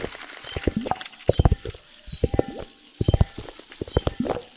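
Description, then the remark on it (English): Rapid bursts of sharp, clattering clicks from a split-flap display flipping, arriving in uneven clusters separated by brief pauses, fairly loud and dry with no voices. “Split flap displays.”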